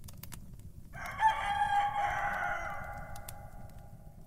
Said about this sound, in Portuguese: Um galo canta.